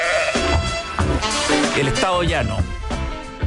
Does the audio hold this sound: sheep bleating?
yes